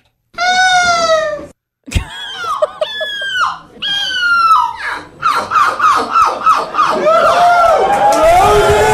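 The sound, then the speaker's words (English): A woman at an imitation competition gives a long, nasal imitation of a cat's meow, followed by several shorter wailing cries. A crowd then answers with a loud swell of overlapping shouts and cries. “But you heard the crowd react to that.”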